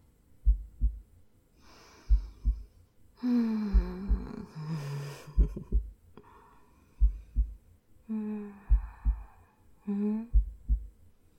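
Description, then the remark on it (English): A close, muffled heartbeat thumps in steady double beats, with breathy gasps and sighs rising over it in between. “You can hear my heartbeat.”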